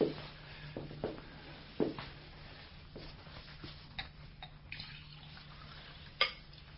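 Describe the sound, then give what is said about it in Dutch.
Water runs from a tap into a drinking glass, a steady splash punctuated by a few sharp clinks, with a low hum underneath and no one speaking. “Maar, zou ik eerst een glas water kunnen krijgen?”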